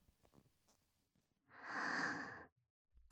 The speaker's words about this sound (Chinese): 弟弟，你的喘息声好像越来越重了。重的好像都要把我吃掉了。